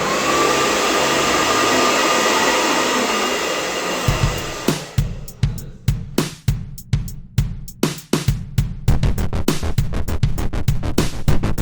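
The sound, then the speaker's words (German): A loud hair dryer, just switched on, roars steadily, then for the last several seconds its airflow turns into a rapid, rhythmic pulsing whoosh, with no voices. “Also, wir verabschieden uns jetzt und dann mache ich den Föhn an, wie du es magst.”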